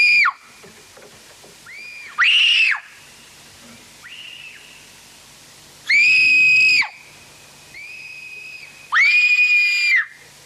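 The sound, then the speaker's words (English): Two tween girls take turns screaming: high, piercing, three loud, sustained shrieks spaced a few seconds apart, with fainter shorter squeals in between, shrill with no talking. “take turns screaming, but again, it's like as a kid screams, like...”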